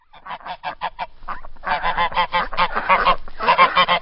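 Several geese splashing in a puddle in the village of Bogaros on the Banat heath on a sunny day honk loudly, a quick series of short calls that swells into dense, overlapping honking. No splashing is evident beneath the chorus.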